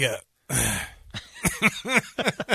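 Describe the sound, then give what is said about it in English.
A brief, sharp cough, then a short pause and a longer, raspy cough from a person in a studio. A voice follows right after. “You just going to sit there coughing in that studio?”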